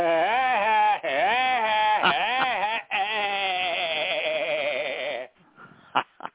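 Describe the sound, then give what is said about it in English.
A voice imitates Woody Woodpecker's call: a loud, nasal, warbling trill delivered in three long bursts with wavering pitch, then a few faint breaths and clicks. “Can you do Woody Woodpecker, I'm hearing?”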